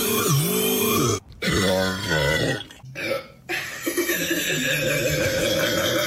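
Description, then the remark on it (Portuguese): Long, loud, gravelly burps after chugging Sprite lemon-lime soda in a Sprite Challenge follow one another with brief silent gaps, croaking with a strong harmonic rumble, and the last one stretches on for several seconds. “E aqui há tempos alguma coisa chamada então Sprite Challenge, em que jovens engolem à bruta a popular gasosa de lima-limão. Gasosa de lima. E aguardam que surja um potente arroto.”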